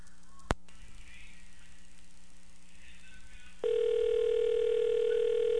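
A sharp click over a quiet phone-line hiss, then a steady, unbroken dial tone switches on and hums loudly to the end as the call connects. No one speaks.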